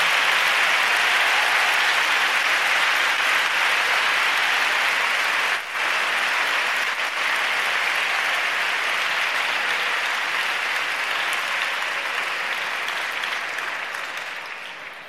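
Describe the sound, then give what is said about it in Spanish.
Sustained audience applause in a sports hall for all the teachers, a dense and steady wash of many hands clapping for about fifteen seconds with a brief dip partway through, gradually tapering off at the end. No voices are heard. “Así que permitidme también que echemos un piropo aquí a los profesores y también un aplauso, ¿por qué no?, a todos los profesores, que se merecen todo lo mejor.”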